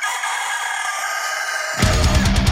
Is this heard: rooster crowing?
yes